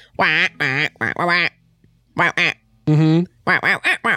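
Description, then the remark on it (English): A person does a loud duck imitation: a rapid string of about nine nasal, buzzy quacks in uneven bursts with short pauses between them. “When did you learn how to speak space duck,”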